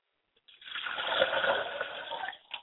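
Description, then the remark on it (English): Liquid is poured out as a libation to Yamenja in a steady splashing stream lasting about two seconds, with a brief extra splash just after it stops. No one speaks. “I pour libations to my mother, Yamenja, the river flowing deep.”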